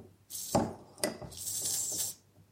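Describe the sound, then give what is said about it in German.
A beer bottle with a crown cap being opened: a couple of sharp clinks and clicks from the cap, then a steady, bright hiss of escaping gas for about a second before it fades. No one speaks. “Es zischt sogar noch beim Öffnen.”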